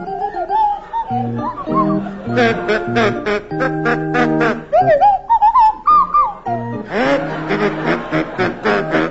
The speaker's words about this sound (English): Tim and Willie, you're to start, and your carol is "Deck the Hall with Boughs of Holly," and it's to feature Willie Rushton on kazoo and Tim Brooke Taylor on Swanee Whistle.